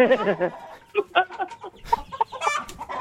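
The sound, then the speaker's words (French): A hen clucks repeatedly in short, choppy bursts, moderately loud, with a few sharper squawks mixed in over about three seconds. “Oui, une poule. Je suis sûr. Poule.”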